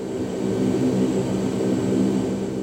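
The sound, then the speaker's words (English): A steady, loud engine drone fills the cabin of a Jordanian cargo plane on an aid flight over Gaza, after airdropping 16 pallets of aid and heading back to Amman, a constant low rumble with a hum of harmonic tones and no voices, unbroken for the whole stretch. “I'm Shirin Jafari, on board a Jordanian aid flight over Gaza”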